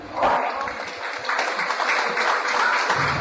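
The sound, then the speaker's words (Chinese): An audience gives sparse applause for a few seconds, a continuous patter of hands at moderate, even volume, with no voices heard over it. “谢谢，谢谢大家稀稀拉拉的掌声。”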